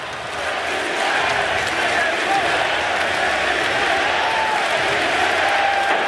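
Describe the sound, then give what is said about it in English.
A large arena crowd at a basketball game roars steadily, with many voices joining in a loud, repeated chant of a player's initials, "JTA", over dense, sustained cheering that fills the whole space without a break. “Well, they're chanting JTA.”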